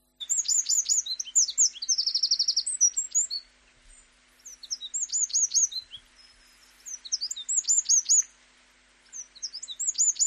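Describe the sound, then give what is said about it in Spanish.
Bright, high-pitched bird song in lively bursts of quick chirps and a rapid buzzing trill, separated by short pauses. Clear, with no voices. “Simplemente te voy a poner tres cantos de pájaro.”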